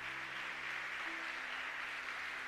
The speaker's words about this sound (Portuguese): Quem pode aplaudir, aplauda aquele que é santo.